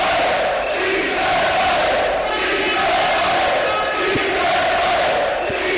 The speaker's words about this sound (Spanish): En el Orecla, allí, como todos los días, decenas de trabajadores han apoyado a los negociadores sindicales al grito de «Sí se puede», que es el eslogan ya de los trabajadores en huelga.